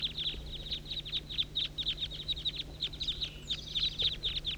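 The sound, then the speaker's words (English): A flock of about 25 birds calls continuously in a dense chorus of high, rapid chirps and squeaky notes, overlapping in quick bursts with a faint low hum underneath. “Recording the major part of the flock here.”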